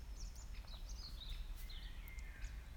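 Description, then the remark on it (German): Several birds sing and chirp in a forest in the late afternoon sun, in overlapping high, warbling phrases, fairly faint, over a low rumbling background of outdoor ambience, with no one speaking. “Nichts zu tun, sondern einfach zu hören, die Atmosphäre des Waldes zu fühlen, den Vögeln zuzuhören”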